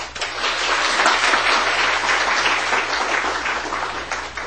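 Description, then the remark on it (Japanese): A crowd of people clapping steadily at a church service, a dense, sustained round of applause welcoming four newly baptized people, holding an even level throughout without any voices rising above it. “4名の方を、皆さんご紹介したいと思いますので、拍手を持ってお迎えしたいと思います。”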